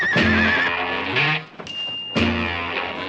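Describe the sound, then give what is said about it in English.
A horse whinnies loudly, its high quavering cries coming in a few bursts with a brief lull in the middle, along with some rustling, shuffling noise and no talking. “I just happened to be riding to the hounds and thought I'd drop in.”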